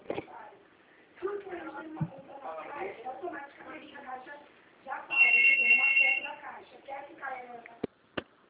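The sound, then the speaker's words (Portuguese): A telephone rings once with a steady, high electronic trill lasting about a second, partly under ongoing conversation, followed by a couple of sharp clicks. “Deixa eu atender o telefone aqui.”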